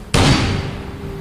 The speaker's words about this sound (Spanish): ¡Agáchate! Al escuchar las detonaciones,